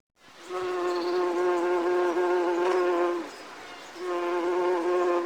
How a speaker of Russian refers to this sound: Какие неприятные ощущения. Как будто насекомые по коже бегают.